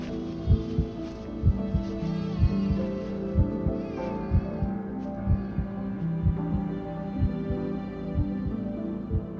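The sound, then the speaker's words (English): A heavy, pounding heartbeat of blood pounding in a person's head thuds steadily in deep low pulses, repeating at a quick regular pace over a low droning hum, with no voices. “Blood pounding in my head, I take the baby in my arms and pull him out of the wrecked car.”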